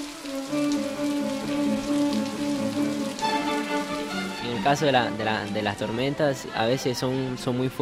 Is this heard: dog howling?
no